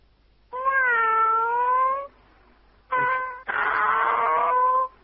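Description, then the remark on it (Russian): A man imitates a cat meowing: a long, drawn-out meow, then a short one and a harsher, wailing one, loud with no other talking. “Мяу, да?”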